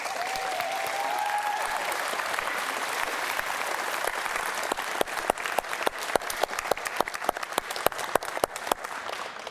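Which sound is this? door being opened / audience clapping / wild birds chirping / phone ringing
audience clapping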